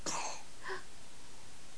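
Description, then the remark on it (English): A single small sneeze, a quick breathy burst followed by a brief voiced catch, fairly quiet, with nothing but faint room noise afterward. “God bless you.”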